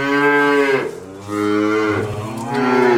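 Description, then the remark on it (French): Cows moo in several long, loud, drawn-out calls, one after another, with only short pauses between them and no talking. “Et au milieu de ces vaches, il y a Arthur, le taureau, qui est quelqu'un d'important.”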